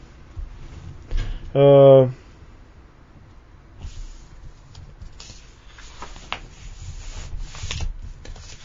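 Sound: pages being turned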